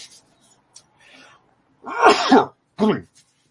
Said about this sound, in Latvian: man nāk šķaudienas